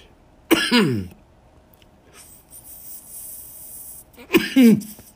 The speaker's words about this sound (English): Oh, motherfucker, alright, I just coughed my fucking butt out of my fucking joint, so I'm gonna load it.